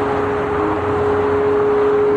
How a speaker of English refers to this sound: It's the sound of traffic.